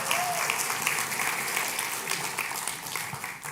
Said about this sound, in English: So you guys, all the angels, you can go back to your seats now if you want. Head on back down. And can we give them a round of applause? Yeah? Angels, good job. Right on.